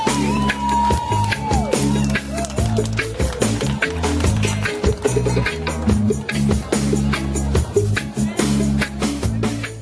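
A crowd applauds and cheers loudly, dense rapid clapping mixed with whoops and shouts that carries on steadily for the whole stretch, with a low droning tone underneath.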